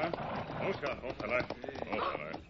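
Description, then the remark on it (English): Horses' hooves clip-clop in an uneven, steady rhythm as a string of horses with lanterns hung on them approaches, partly masked by voices talking over them. “He's got our horses strung out behind him with lanterns hung on them.”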